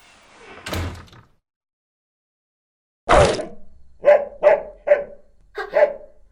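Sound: large wolfdog barking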